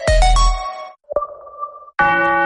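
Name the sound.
clock chiming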